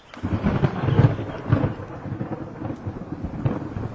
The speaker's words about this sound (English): Thunder boomed and a hard rain fell, causing the leaves above them to rustle.